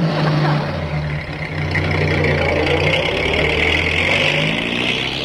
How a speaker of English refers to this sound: An arm around each other's waist, George and Mary watch Sam's fancy limo take off down the street.